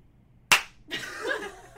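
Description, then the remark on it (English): A single sharp, loud hand clap: two people, doing an intuition test, clap at the same moment after a count to three, so it lands as one crisp smack with a short ringing tail. A second or so of soft breathy rustling follows. “After three, when you feel like you should clap at the same time, do it.”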